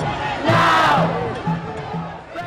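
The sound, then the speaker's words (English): A large crowd of students protesting circa 2010 against higher university tuition fees chant in unison, their massed voices rising and falling in a rhythmic, shouted slogan with a loud burst of cheering noise near the start. “protesting students circa 2010.”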